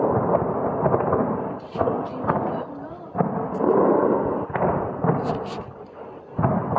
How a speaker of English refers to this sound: Explosions have been heard across the Iranian capital, Tehran, as three waves of airstrikes were launched by Israel overnight.